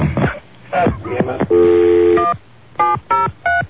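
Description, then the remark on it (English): A telephone busy tone after a failed call: a brief recorded voice saying "We're sorry. Your call cannot be completed," then a steady electronic tone, followed by short, evenly spaced beeps on the line. “We're sorry. Your call cannot be completed.”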